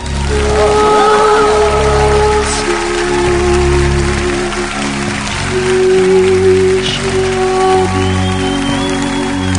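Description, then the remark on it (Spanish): A crowd claps steadily and continuously for about ten seconds, a dense crackling wash of applause that holds loud throughout, with low sustained musical tones playing underneath, as a show audience welcomes a surprise guest introduced as Jesus Christ. “Les pido un fuerte aplauso para recibir a Jesucristo.”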